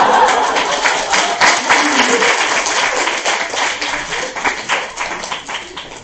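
An audience bursts into steady applause, a dense wash of many hands clapping at a fairly loud, even level that holds for about six seconds with slight swells and dips.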